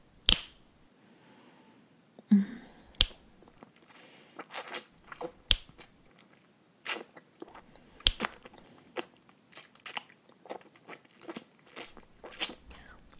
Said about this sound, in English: Feel my mouth on your cock as I keep sucking and slurping and fucking with my mouth.